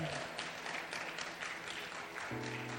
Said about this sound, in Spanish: Si le va a aplaudir, hágalo fuerte, iglesia. Hágalo fuerte.